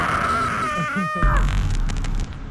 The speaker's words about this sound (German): Wie hat sich das angefühlt, mal so richtig geil rumzuplärren? Es hat gut getan, wirklich. Ich habe noch nie in meinem Leben so geschrien, glaube ich.